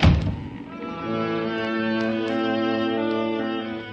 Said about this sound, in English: If you're going into the chart room, please close that blinking door. I can't stand to hear a door banging.